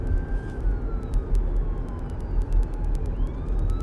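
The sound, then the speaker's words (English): An ambulance siren wails with rising and falling pitch as the ambulance comes by, over a dense bed of street traffic rumble and scattered clicks, with no talking. “And there's an ambulance coming by.”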